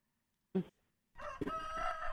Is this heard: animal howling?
no